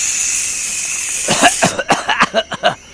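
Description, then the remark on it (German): A steady aerosol hiss from a large bottle of mosquito repellent spray runs for over a second, then breaks into a quick series of seven or eight short, sharp bursts as someone is generously sprayed with it, fairly loud with no talking. “Loki wühlt in einem riesigen Rucksack, den sie auf dem Rücken trägt, herum und fördert schließlich eine große Flasche Mückenspray zutage. Großzügig sprüht sie Mika damit ein.”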